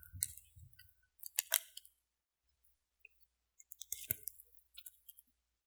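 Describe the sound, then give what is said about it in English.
Someone getting a drink of water: quiet handling noises with scattered clicks and crinkly rustles, in short bursts separated by brief pauses, with no talking. “Hold on, I'm going to get a drink of water.”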